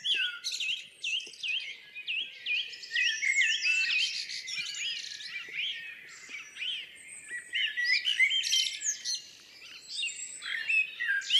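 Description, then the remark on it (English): A blackbird in full song and a song thrush, each recorded on its own microphone in the northeast of Scotland, about 40 miles north of Aberdeen, sing together, their rich, varied phrases overlapping in a dense, continuous chorus. The birds sound close and fairly loud, with no voices. “I've got a blackbird in full song right on top of one of Ken's mics, and I've got a song thrush on the other mic, courtesy of Arthur.”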